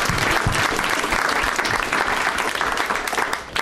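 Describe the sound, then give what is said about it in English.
An audience claps steadily, dense overlapping handclaps forming a loud, continuous wash of applause that holds for a few seconds before tapering slightly at the end. “Really effective clapping.”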